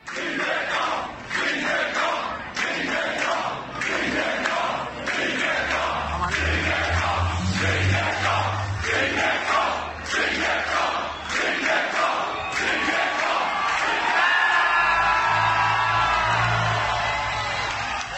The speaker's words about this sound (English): was with about 800 metres to go where the riders or the course went under one of the main roads. I've seen this. Bridge. Yeah, and the crowd are chanting his name.